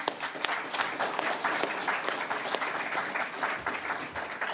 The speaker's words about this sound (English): we just want to say thank you so much to our wonderful team of musicians. You bring the message of Christ to us so clearly every week. How about a round of applause for our musos?